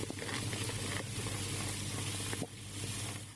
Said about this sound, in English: So, this is the smiling condition, which is what it's called when you check your brew, and it's bubbling away.